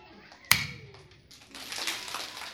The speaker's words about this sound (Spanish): El aplauso consiste en un golpe de una palma contra la otra palma, pero de la misma persona. Primero lo haré yo y luego ustedes lo repetirán.